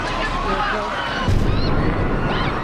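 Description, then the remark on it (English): A busy crowd murmurs near the finish line of the Boston Marathon, then one of two pressure cooker bombs bursts out partway through as a single heavy boom, just before 3 p.m. on Monday the 15th, 2013, leaving a louder, rumbling wash of noise and agitated voices afterward. “Two pressure cooker bombs”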